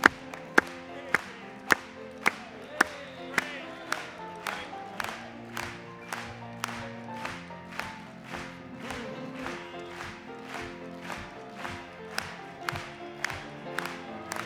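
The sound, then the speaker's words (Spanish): An audience claps for the Lord during worship singing in a steady, even rhythm, sharp unison claps repeating about twice a second over a sustained musical drone, loud and continuous throughout. “Vamos a aplaudirle.”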